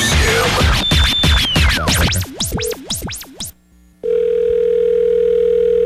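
A jumble of swooping, warbling electronic sweeps fades out, and after a brief silence a steady, continuous telephone dial tone starts as a prank phone call is placed, holding loudly to the end, with no voices.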